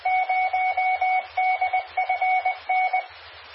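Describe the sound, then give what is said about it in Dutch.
A radio interference signal on the 23 cm band, coming from the north as heard from Alsen: rapid bursts of a steady electronic beeping tone repeating in uneven groups at an even volume, with a faint low hum underneath and no one speaking. “Oh, die heeft zijn zegje ook weer gedaan, dat was 23 centimeter.”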